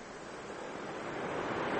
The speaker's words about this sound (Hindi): और लास्ट में जब मैदान में आती है तो सागर से टकराती है। ऊंची ऊंची लहरों का